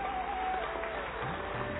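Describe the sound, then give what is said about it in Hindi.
An audience at a Brahma Kumaris event claps steadily as guests are introduced, a dense wash of many hands that stays fairly even and loud through the whole moment, with a faint tonal hum beneath. “ताली बजाने से हेल्थ बनती है, सुना है, बजाते रहिए।”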